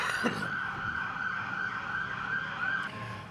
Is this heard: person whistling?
no